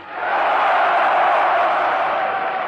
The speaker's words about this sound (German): Nachdem auch alle anderen Fragen von dem ausgewählten Publikum mit einem frenetischen Ja beantwortet waren,